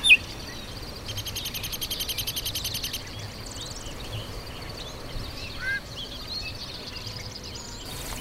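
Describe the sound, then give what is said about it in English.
Bird calls from a chat over a steady outdoor hiss: a brief whistle, a harsh buzzy screech lasting a couple of seconds, and quick high twittering chirps scattered throughout, fairly faint, with no talking. “There's a whistle, sort of a screech, then a twitter.”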